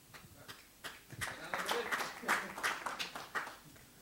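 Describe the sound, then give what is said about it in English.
A scattered burst of clapping from a small group builds after a hesitant start, with irregular, overlapping claps that stay moderately loud for a few seconds. “Please, applaud.”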